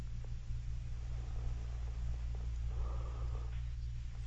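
Someone breathes into a phone line, a low, steady rasp over a constant hum of line noise, close and fairly quiet, with no one speaking.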